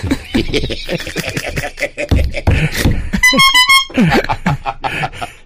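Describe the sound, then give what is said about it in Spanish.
A car horn honks in a quick burst of short, rapid toots lasting under a second, loud, cutting in between stretches of people talking. “Lo de la bocina ese”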